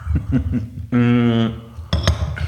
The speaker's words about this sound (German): Okay, dann lass uns mal ganz kurz hier anstoßen. Runde 2, jetzt haben wir hier Kaffee ganz stilvoll. Cheers. Cheers.